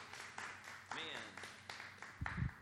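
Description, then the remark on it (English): An audience claps in a steady rhythm, sharp beats repeating roughly every quarter second, while voices speak and call out over the clapping. “Clap, clap, clap, clap, clap, clap.”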